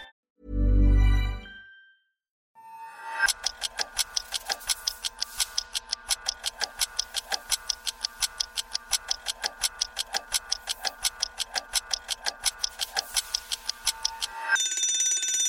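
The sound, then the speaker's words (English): A countdown timer ticks rapidly and steadily for about eleven seconds after a dull thump, then a bright ring sounds at the end. Clear, with no voices. “Minutes on the timer, and the topic is alcohol, part two.”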